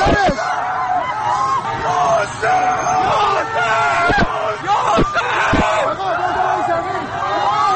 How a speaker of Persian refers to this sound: تک تیراندازها به سمت مردم شلیک می کنند. صدای ناله زخمی ها و تیر خورده ها با صدای فریاد جمعیتی که به کمکشان رفته در هم می پیچند.